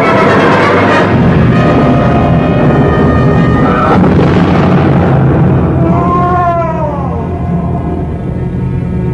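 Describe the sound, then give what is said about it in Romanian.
A loud, sustained roll of thunder rumbles deep and heavy throughout, with a sharp crack around the middle and a thin wavering whistle rising and falling toward the end. “Trăsnetul îl țintește pe acest om și-ți cer, Creon, să lași trăsnetul să-și urmeze drumul.”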